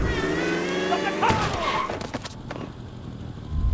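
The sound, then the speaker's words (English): A car engine hums steadily as the car reverses, then a sudden heavy thud as it hits a person, followed by a few scattered knocks and bumps as the engine noise fades into a quieter rumble. “Gordon Wei is hurrying to meet his then girlfriend, Miss Harmison, when he is unfortunately prevented from reaching his destination because Dirk reversed his car into him.”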